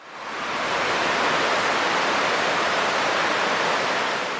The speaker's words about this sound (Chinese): 跑咗冇几耐，佢真系听见大洪水嚟嘅声音。